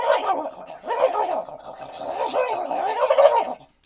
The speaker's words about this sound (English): the fish babbler is a long, straw-like fishing call, which, when used properly, emits a sound that is nearly irresistible to bass, perch, walleye, trout, and any other fish you can conceivably think of. Just dip the beveled end in the water and...